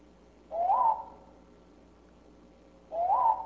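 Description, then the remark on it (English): Two separate tonal natural bird chirps, each rising in pitch then dipping slightly, spaced about two seconds apart against quiet background hiss; no one speaks. “so this is a natural chirp”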